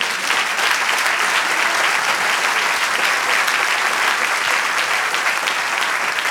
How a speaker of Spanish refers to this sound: Un aplauso, Señor.